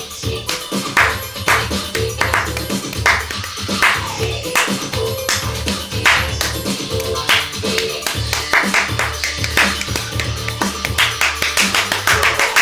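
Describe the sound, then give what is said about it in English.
Sharp, crisp hand claps in a busy, syncopated pattern ride over a steady, bass-heavy music track, the claps landing loud and frequent throughout. “Play it again and do the most complicated clap track you can do.”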